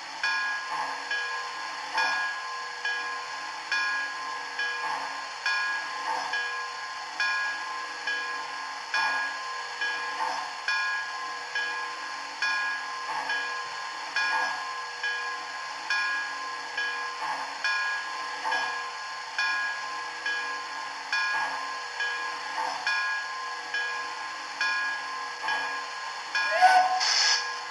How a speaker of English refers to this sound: Pick up the consist. After we drop this train on track 4 in the receiving yard, we'll pick up the new train on track 2 in the departure yard.